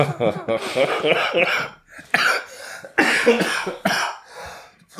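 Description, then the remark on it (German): A person coughs several times in a row, harsh, each burst loud and separated by short pauses, with some throaty vocal noise before the coughing starts. “Aber husten kannst du.”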